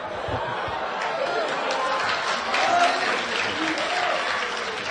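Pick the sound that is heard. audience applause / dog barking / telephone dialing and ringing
audience applause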